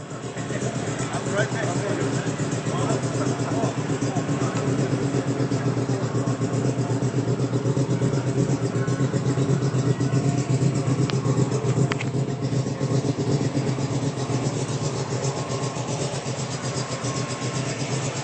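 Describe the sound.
A 1932 Ford car engine runs with a loud, steady rumble that holds at an even level the whole time, with a faint murmur of background voices.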